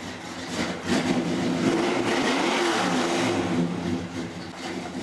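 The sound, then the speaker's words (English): A stripped-down Chevelle muscle car engine rumbles loudly with a deep throbbing idle in a shop where the car awaits restoration, then revs up in the middle before settling back to a steady growl. No one speaks. “Today, the lean, stripped-down Chevelle, its engine throbbing, sits in the shop ready for restoration.”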